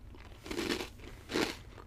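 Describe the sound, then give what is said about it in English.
Two crisp crunches of someone biting into hard, crunchy lemon crisp cookies, each a short burst of brittle crackling separated by a brief pause, with no talking. “God, they're so crunchy.”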